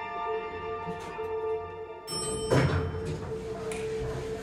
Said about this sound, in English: The elevator doors open.